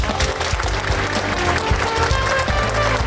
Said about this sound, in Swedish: Stort tack för den här djupdykningen i tonårshjärnan. En stor applåd till Armita Golkar.